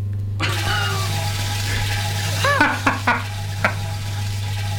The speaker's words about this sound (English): And there you have the locked groove of what might well be a toilet flushing, or in fact an orange being juiced. And that locked groove there, ladies and gentlemen, goes on forever. Beautiful. So that never runs out.